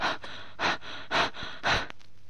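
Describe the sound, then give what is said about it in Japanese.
Rapid, heavy panting demonstrated as a short-breath breathing exercise: four quick, even breaths in a steady rhythm, fairly loud, with no talking, like someone catching their breath after a run. “今度は短足呼吸の練習です。走った後のような荒い息遣いをします。”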